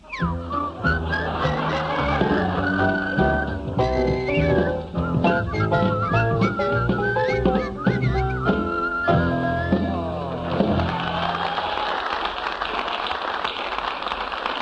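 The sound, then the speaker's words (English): Someone whistles a bright, wandering melody over a full, sustained musical backing, loud; toward the end the tune thins out into a noisier, scattered texture. “French for whistling.”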